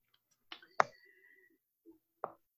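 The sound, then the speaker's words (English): A few quiet, sharp clicks land at uneven intervals, a computer mouse being clicked while navigating a library website, with a faint tonal hum lingering between them and no talking. “I'm clicking on the crane in the upper left, just taking you home again.”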